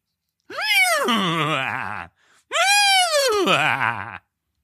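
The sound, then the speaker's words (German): A person imitates a laughing horse with two loud, quavering whinny-like calls, each rising then trembling downward, separated by a short pause, with no other talk. “Mach mal ein lachendes Pferd.”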